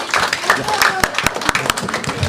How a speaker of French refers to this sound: Vous pouvez les applaudir, 10 points.